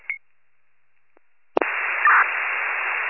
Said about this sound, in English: It's all static.